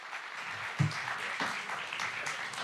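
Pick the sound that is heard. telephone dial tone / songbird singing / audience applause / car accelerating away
audience applause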